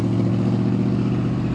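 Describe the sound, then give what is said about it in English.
A steady rumble of road traffic on Highway 70 at Keddie Y, passing behind the camera, with low engine drone and tire noise holding constant throughout as vehicles stream along the highway. No voices are present. “You can hear cars going by behind the camera. That's Highway 70.”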